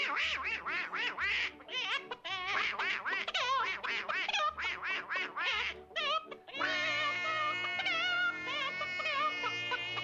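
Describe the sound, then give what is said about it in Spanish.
A person imitates the cartoon voice of Donald Duck, producing a rapid series of raspy, nasal quacking syllables, followed by a longer sustained squawky stretch. “Todo surge cuando Disney ve una secuencia de una película en la que Duquesne canta un dúo con una soprano que tenía voz de gallina y Duque le da la réplica con su voz de Pato Donald.”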